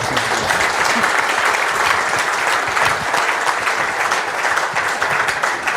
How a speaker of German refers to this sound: Erstmal natürlich einen Applaus, bitte.